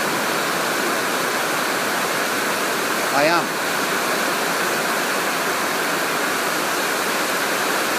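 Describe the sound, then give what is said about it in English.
Steady, heavy rain in Malaysia pours down as a dense, unbroken hiss that never lets up. A voice briefly says a couple of words partway through. “So I think I'll leave you with the sound of the rain.”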